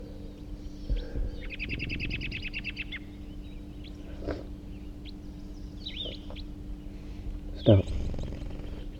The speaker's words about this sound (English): Sounds like type 4. Here comes that third wild bird. And it's a red male.